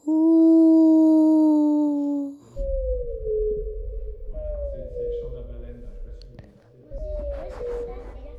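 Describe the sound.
A child's voice imitates a whale's cry with a few long, drawn-out moaning tones that slide slowly downward, sung loudly, one after another.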